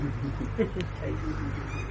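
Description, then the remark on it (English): A parrot gives a few brief squawks over a steady low rumble of background noise, the calls faint and scattered rather than continuous. “You can hear them. Их можно услышать. That's a parrot.”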